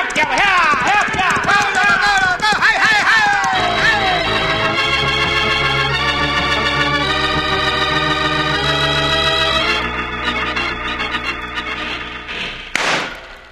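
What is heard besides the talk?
cattle herd stampeding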